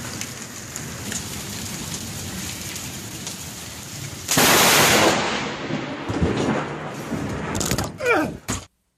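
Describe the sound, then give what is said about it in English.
Steady heavy rain patters, then a sudden, deafening thunderclap from a close lightning strike cracks near a man filming it on his phone, a sharp explosive burst that rumbles and rolls away slowly beneath the continuing downpour. “It did not actually strike him, but it was enough to cause partial paralysis, temporary, and also temporary hearing loss.”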